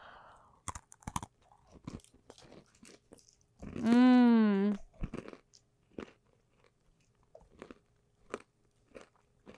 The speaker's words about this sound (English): can you hear me crunching?